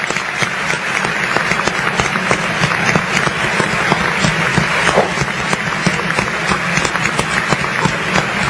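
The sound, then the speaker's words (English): An audience applauds a man speaking, dense overlapping claps forming a loud, continuous wash of sound that holds at an even level throughout, with no voices standing out. “Listen to these low-life, degenerate idiots applauding this man.”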